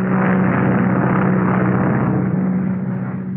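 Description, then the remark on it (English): A small propeller plane drones steadily overhead above the clouds at night, its engine hum loud and constant with a strong low tone, easing off very slightly toward the end. “That night, a small plane flies over the clouds.”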